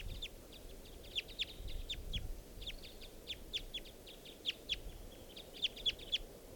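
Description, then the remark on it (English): A male wild bird calls in quick, irregular bursts of short, high-pitched chirps, fairly soft, over a low rumbling background with no voices. “And that's the male calling there.”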